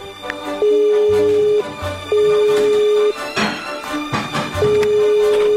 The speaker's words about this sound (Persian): اینجوری شد که وقتی رسیدم خونه، گوشی رو برداشتم و بهش زنگ زدم.